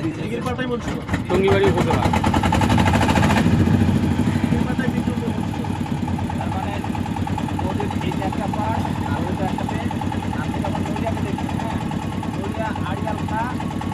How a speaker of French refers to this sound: Alors, il y a une manivelle pour faire démarrer le moteur, là. Voilà, il y a manivelle amovible.